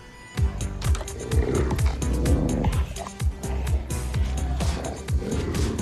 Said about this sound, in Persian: بعد یهو سر و کله یه گرگ وحشی پیدا شد.